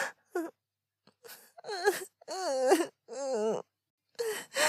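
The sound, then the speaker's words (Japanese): A person cries and moans in a series of wavering, breathy wails, several bursts with short pauses between, fairly loud, with no words spoken. “泣いてるよ。”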